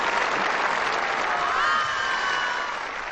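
Steady applause from an audience at a talent show, greeting a dancing snake act, a dense wash of clapping hands that holds at a constant level for a few seconds before easing slightly at the end.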